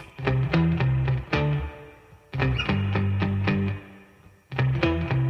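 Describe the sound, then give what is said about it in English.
A wet, effected bass guitar stem from a song plays plucked phrases with an octave effect layered on top, notes ringing and decaying in repeated bursts with short gaps between. No voices, just the instrument. “Has to be one of the coolest bass tones we've had.”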